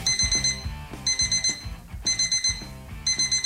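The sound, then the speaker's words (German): An electronic alarm clock rings in rapid bursts of high, shrill beeps, four repeating cycles of pulsing tones over a low rhythmic thump, loud and with no one speaking. “Auch in ganz Deutschland wird diese Dösel-Taste, sprich Snooze-Taste, immer beliebter.”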